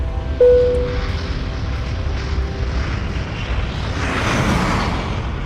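A chartered airplane flying out of the Bahamas: its engines roar steadily and loudly, swelling into a brighter, rushing whoosh toward the end as the plane seems to pass by. No one speaks.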